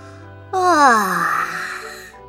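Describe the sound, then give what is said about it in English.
A voice acts out a frog's long, drawn-out yawn, starting with a sudden open-mouthed rise and sliding downward into a breathy, fading exhale. Fairly loud, with no other sounds. “Yawned the frog.”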